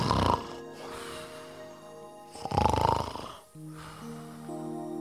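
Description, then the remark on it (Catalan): A hippopotamus snores in two deep, rasping breaths, one at the very start and a longer one midway, loud, with a soft sustained tonal background between and after. “L'hipopòtam començà a roncar.”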